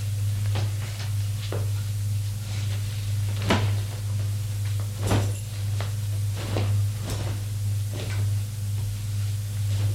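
Dust covers are pulled off chairs in a large living room in a series of short swishes and soft bumps at irregular intervals, with a steady low hum underneath and no voices.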